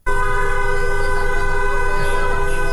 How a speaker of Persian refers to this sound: در میدان تجریش تهران هم گروه‌هایی از دخترانی که حجاب از سر برداشتند با همراهی پسران دست به راهپیمایی در منطقه زده و خودروهای عبوری نیز با بوق‌های ممتد از اقدام آنها حمایت کردند.